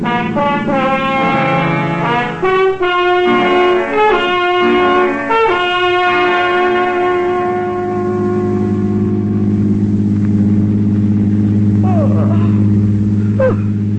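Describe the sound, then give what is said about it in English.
A car engine hums in a steady, low drone throughout as the car is driven in darkness, with sustained musical tones over it at first that fade, leaving the even rumble of the moving car. “Or the car, do you? In this darkness?”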